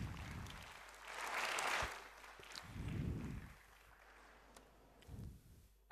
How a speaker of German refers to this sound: Applaus.